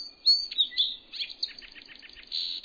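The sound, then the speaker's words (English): A male songbird sings its species song: a continuous, high-pitched song of clear whistled notes sliding into a rapid, rhythmic trill of chirps, with no voices or other noise. “As young male birds get ready to leave the nest for good, they hear their male parents singing again and again.”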